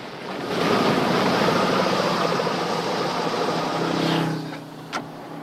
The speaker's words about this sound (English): The paramedic does a U-turn and pulls the ambulance in front of the blue hire car.